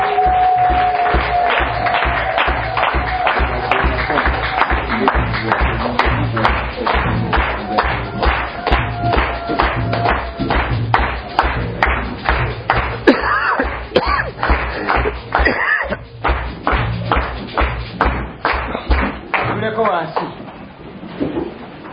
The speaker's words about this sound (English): So you can clap. You can clap.